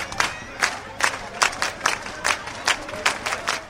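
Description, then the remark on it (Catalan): Rhythmic applause from a marching crowd as the march arrives in Móra d'Ebre: bursts of clapping land in a steady beat, roughly three per second, over a constant murmur of many voices. “Arribava a Móra d'Ebre amb aquests aplaudiments.”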